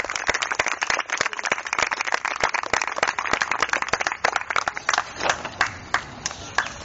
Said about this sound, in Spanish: le damos un aplauso